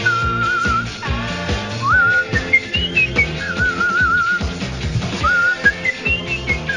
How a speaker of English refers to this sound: Here we go. Come on. Oh, bit dry on the whistle there. Try again, boy.